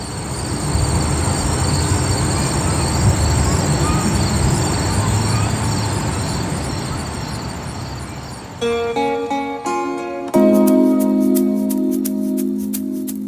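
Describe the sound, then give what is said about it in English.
Outdoor ambience from Mill River Park in Stamford, Connecticut: a steady wash of noise with rumbling train sounds, then shrill squealing, whining tones rising out of it over the last few seconds. “Here's some sound from our producer, Meg Dalton. It's Mill River Park in Stamford, Connecticut.”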